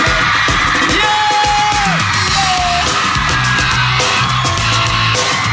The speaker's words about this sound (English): Would you have a nice big cheer for a great guy